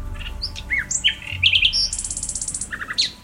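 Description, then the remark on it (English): A bird sings a lively, varied song of quick chirps, whistles and rapid trilled bursts, fairly loud, with no voices present. “But there's also the great attraction of trying to sing like one.”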